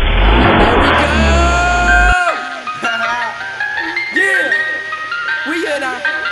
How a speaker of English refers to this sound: We in our ice cream truck, and we about to roll out this motherfucker. Hey, start that shit up, man. What's going on? What's wrong with you?